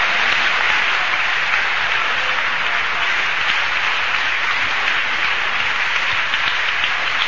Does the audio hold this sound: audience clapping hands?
yes